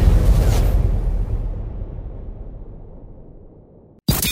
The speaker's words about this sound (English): Kaboom! You heard?